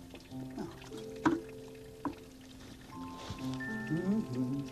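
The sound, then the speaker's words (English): Water pours steadily into a container, fetched for cleaning a wall, with a rising gurgling tone and a few sharp clinks, fairly quiet. “First, I have to get a little water.”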